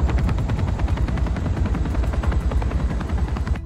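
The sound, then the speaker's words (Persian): A helicopter flies by, its rotor blades beating out a rapid, steady thumping over a deep engine roar. The sound stays loud throughout and cuts off abruptly at the end. “رزمناف باید الان هلیکوپتر رو دیده باشه.”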